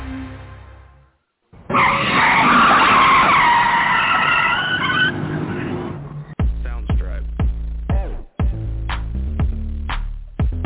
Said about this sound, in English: Dude, don't even ask me how, but the brakes just screech automatically now.